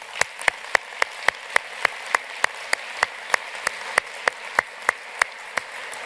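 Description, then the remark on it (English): A room full of people at a session clapping in thanks to the organizers, a steady hissing wash of applause with one sharp clapper keeping an even, quick rhythm throughout. No one speaks. “And I'd really just like to show a huge round of applause and appreciation to those people, and particularly our room manager today”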